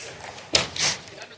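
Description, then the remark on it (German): An extra chair is shifted into place: a sharp wooden knock followed by a brief scraping drag, with faint room murmur in the background. “So, wir machen eine ganz, ganz kurze Pause, müssen nämlich ein Stuhl? 1, 2, 3, 4, 5... Noch einer zustellen auf jeden Fall.”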